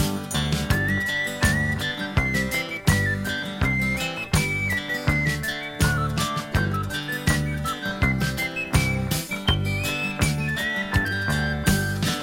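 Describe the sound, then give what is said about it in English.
A person whistles a bright, wavering melody over a steady, full band accompaniment with a rhythmic beat; the whistled tune rides clearly on top throughout, with no singing or talking. “Then we'll whistle and go fishing in the heaven.”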